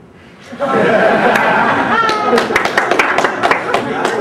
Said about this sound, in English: The rich people in the crowd applaud. Those are donors.